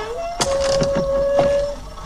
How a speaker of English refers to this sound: You have the sound of a fly buzzing, water drips on a hat, a sign creaks in the desert wind.